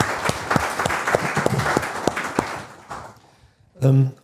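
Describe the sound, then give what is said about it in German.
An audience breaks into applause, a dense patter of many hands clapping for about three seconds before fading out, followed by a short burst of a voice speaking. “Also vielleicht mal einen kleinen Applaus für die Kollegin, die das hier so gemacht hat.”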